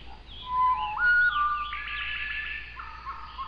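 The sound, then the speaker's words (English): Slowed-down birdsong at half speed: a series of clear whistled notes gliding up and down, then a layered stretch of overlapping tones that seem to harmonize, with no talking. “when I slow it down to half speed, you can actually hear all these notes coming”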